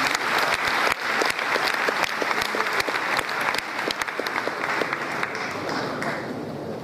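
An audience claps steadily for about seven seconds, a dense, sustained wash of many hands, close and fairly loud, fading only slightly toward the end with no one speaking.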